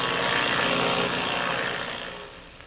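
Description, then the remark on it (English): A powerful twin-engine airplane flown by Ivan Shark drones steadily through the black night over wild country, its loud buzzing roar holding a constant pitch before gradually fading out over the last second. No voices are heard. “Another plane, a powerful bimotored ship, is flying through the black night over that wild country.”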